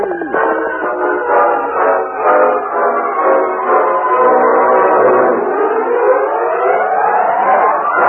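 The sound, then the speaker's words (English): A distant steam train whistle, heard by a crowd at the small new depot in Silverton, blows one long, continuous chord of several shrill tones that waver slightly and bend upward toward the end, loud and steady throughout with no voices. “Suddenly, as the distant sound of a whistle was heard, they waved their hats and cheered loudly.”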